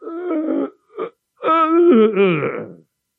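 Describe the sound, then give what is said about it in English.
A voice imitates groaning: a strained moan, a brief grunt after a pause, then a long, wavering groan that slides down in pitch before trailing off. “I remember being frightened, first of all, as a little fellow, and then being fascinated by the way he would sit in his chair, and suddenly you would hear these groans.”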